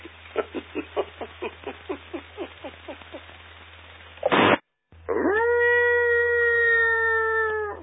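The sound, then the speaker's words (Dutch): A wolf howls: a rapid run of short rhythmic yips, a brief harsh burst and a short pause, then one long, steady, fairly loud howl held to the end. No one speaks. “Ja, er zijn wolven zomaar in het land gekomen.”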